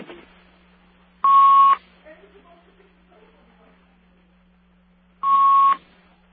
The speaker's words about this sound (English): Somebody's cutting in somewhere. 1 second. It's your phone, Rabbi. 1 second.